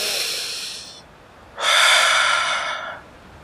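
Two breathy inhalations through the nose, a shorter one followed after a pause by a longer, louder sniff, with no talking, as someone smells the air in Bandung.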